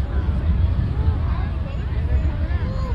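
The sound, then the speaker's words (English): A heavy, continuous low engine rumble of Harley-Davidson motorcycles rolling slowly past in a parade, steady and loud throughout, with a crowd murmuring in the background. “Harley Davidson's coming up.”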